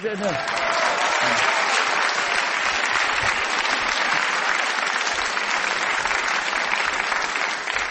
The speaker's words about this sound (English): I hope you are applauding the whistle and not what he said.